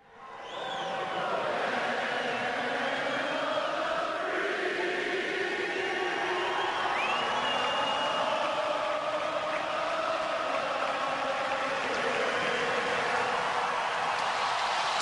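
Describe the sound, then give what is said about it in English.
A large arena crowd roars steadily throughout as it finishes singing the national anthem, with many voices blending into sustained cheering and a rhythmic "USA" chant rising out of the din as the cheers fade. “The crowd breaks out into a USA chant as the cheers fade”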